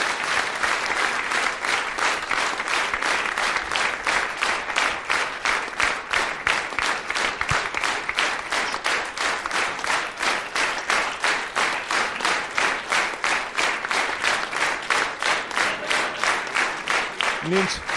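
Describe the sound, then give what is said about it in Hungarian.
Sustained audience applause fills the whole stretch, a dense, steady patter of many hands clapping at an even loudness with a faint rhythmic pulse running through it, at a ceremony presenting a diamond record for 5 million records sold, honoring Hofi Géza. “Nincs mivel tapsolnom, holott én is szívesen tapsolnék, de ezért gyorsan átadom.”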